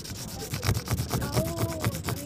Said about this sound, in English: Thousands visited the wall to pay homage and remember those who served in the Vietnam War. Some used paper and chalk to make etchings of names important to them.